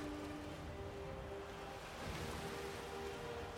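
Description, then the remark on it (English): A steady wash of water lapping along a shoreline outside Solitude as someone runs along the water, even and continuous with no distinct breaks, mixed with a low tonal hum in the background and no voices. “To get to safety, we're running along the water.”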